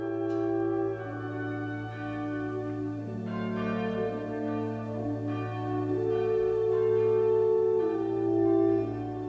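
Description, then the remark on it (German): Church bells ring steadily on a Sunday at noon, their strikes overlapping into a sustained, resonant hum with rich harmonic overtones, fairly loud and continuous with no voices present. “Sonntags um 12 schlägt immer eine Glocke an, noch und irgendwo.”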